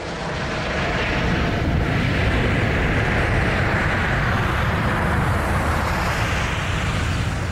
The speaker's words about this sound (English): And just for comparison, I've got for you a recording of an airplane taking off. This is posted on YouTube by PDX Aviation. Because they are not dissimilar noises.